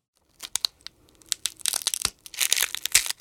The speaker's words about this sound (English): next thing I'm going to do is a cracking of an egg or pecking. Think about that scene in Jurassic Park when the dinosaur eggs hatch.